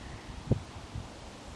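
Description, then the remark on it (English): Wind rustles softly and steadily through the leaves of a willow tree along a river, a faint, continuous outdoor hiss, with two brief low thumps like footsteps of someone walking along a path strewn with dry autumn leaves. “There is a willow tree here, and the wind is rustling in the leaves.”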